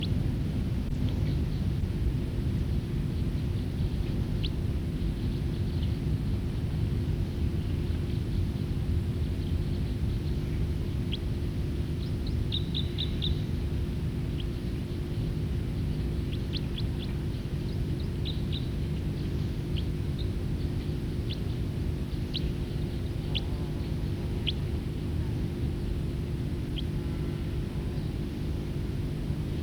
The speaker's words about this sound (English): Flight call. Calls of that bird. Back to song.